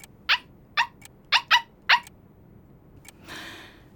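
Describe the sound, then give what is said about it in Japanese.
A stray dog that wandered into a social party barks five times in quick, uneven succession, sharp, with no one talking; a brief soft rushing noise follows after a short pause. “あの社交パーティーには大切な方がたくさんいらしていたというのに、迷い込んできた野良犬にかまけてご挨拶もおろそかにするだなんて。”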